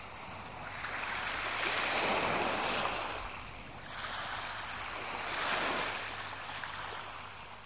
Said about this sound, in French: Écoute des différentes ambiances de la scène du réveil. La mer.